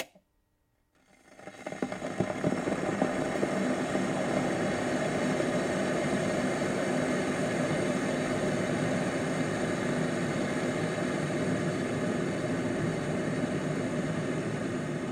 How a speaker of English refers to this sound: Firstly, actress Kim Basinger, boiling a kettle for her morning cup of tea whilst wearing pyjamas and a dressing gown.